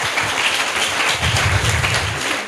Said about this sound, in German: Danke. Ja, einen Applaus.